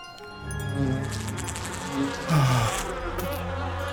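A dense, droning buzz of many flies fills the space, steady, with wavering pitches rising and falling as the swarm swells briefly louder midway.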